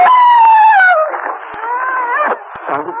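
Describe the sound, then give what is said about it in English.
A dog howls and whimpers in a long, wavering cry that starts high and slides downward, then keeps moaning unevenly at a lower pitch. It is fairly loud, with no talking. “That's a dog, huh?”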